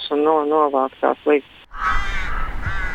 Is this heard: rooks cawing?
yes